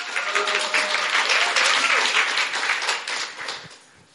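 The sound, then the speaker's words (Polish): A crowd breaks into steady, loud applause, a dense wash of many hands clapping at once that holds for about four seconds before tapering off at the end. “Patrz, nikt ci nie klaszcze brawo nawet.”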